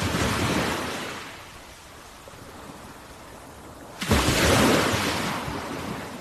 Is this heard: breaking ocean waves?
yes